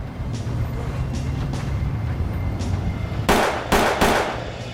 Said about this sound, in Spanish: Uno disparó tres veces y salieron huyendo. Los disparos se oyeron en todo el vecindario.